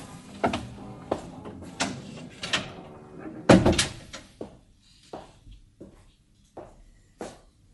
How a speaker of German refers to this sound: Ja, kommen Sie rein, die Tür ist auf.